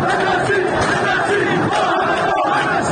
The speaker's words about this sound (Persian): معترضانی که شبها به خیابانها آمدند و شعارهای تندی علیه حکومت دادند. کوچه‌های آبادان صحنه تعقیب و گریز مردم معترض و نیروهای امنیتی شد.